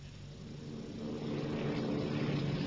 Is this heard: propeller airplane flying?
yes